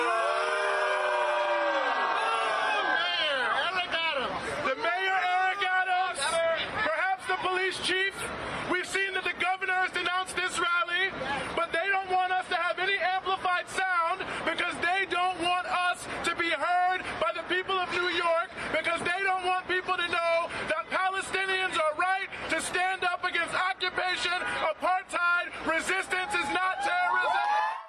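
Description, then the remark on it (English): A large crowd of voices at a Gaza solidarity protest rally in Times Square, New York City, chants and shouts in steady rhythmic bursts, loud, with yells rising over the continuous roar of the outdoor rally for nearly half a minute. “Solidarity protests with Gaza took place around the world over the weekend, including here in New York City's Times Square.”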